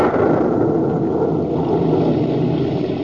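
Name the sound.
rumble of thunder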